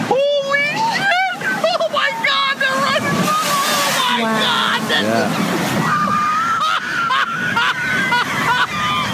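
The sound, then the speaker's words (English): Water sloshes and splashes steadily as whales break the surface, heard from a boat, with excited voices exclaiming over the continuous wash of water. “Those whales came up.”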